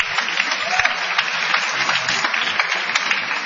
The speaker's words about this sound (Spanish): Mira, ahí está la gente aplaudiendo. Mira, ahí, sí, mira, ahí está. Mira, hay gente acá en el estacionamiento. Gracias.